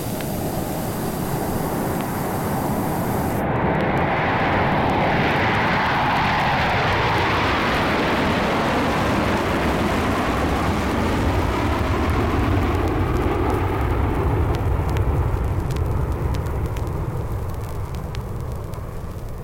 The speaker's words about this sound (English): Join me at the airport for a jet flight.